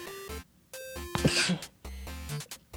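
A single sharp sneeze bursts out partway through a radio broadcast, a short noisy blast with no talking around it.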